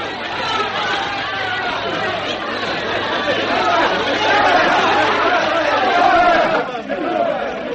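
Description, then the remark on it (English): A large crowd gathered in Australia to welcome Madame Melba chatters steadily. It is a dense wash of overlapping voices with no single speaker standing out, holding a fairly even loudness throughout with a slight swell near the end. “Such a great crowd of people.”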